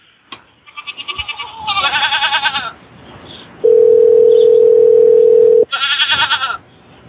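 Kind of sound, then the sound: animal, goats bleating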